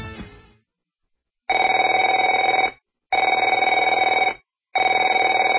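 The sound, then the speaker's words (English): A telephone rings in three loud, buzzing bursts of about a second each, separated by short pauses, with a steady bright tone and no one speaking. “Afraid to answer it?”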